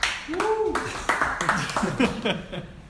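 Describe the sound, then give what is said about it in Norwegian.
A few sparse, limp hand claps scattered across a couple of seconds, mixed in with voices talking and laughing; the clapping is brief and unenthusiastic rather than a full round of applause. “Laber klapping der.”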